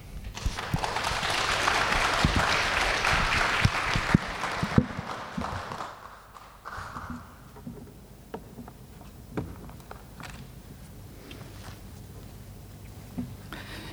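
A church audience at a worship service claps steadily for about six seconds to welcome a visiting pastor, a dense wash of applause that fades out, followed by quieter background sounds with scattered clicks and thumps.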